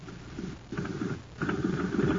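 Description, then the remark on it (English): A jet cycle engine running on ordinary fuel putt-putting: low, sputtering chugs coming in uneven bursts with brief lulls between, moderately loud and heard on its own without any voices. “Say, gang, talk about a putt-putt. Just listen to this jet cycle.”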